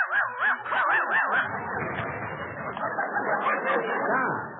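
dog barking and whimpering

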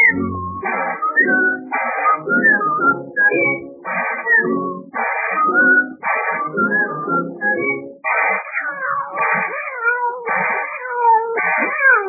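kitten meowing

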